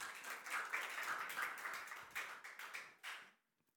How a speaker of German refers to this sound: An dieser Stelle herzlichen Dank euch beiden, dass ihr das gemacht habt. Ja, ihr dürft ruhig klatschen.